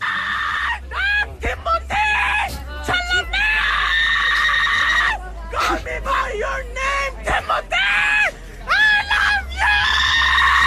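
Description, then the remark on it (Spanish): Actor Timothée Chalamet screams loudly in a string of strained, high-pitched bursts with short breaks between them, the voice rising and wavering across about ten seconds. “Difícil gritar así de bien.”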